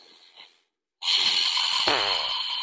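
A woman doing deep breathing exercises backstage at a live show with her microphone left on: a soft, short intake of breath, a brief pause, then a long, loud, forceful breath with a raspy, slightly wheezy edge.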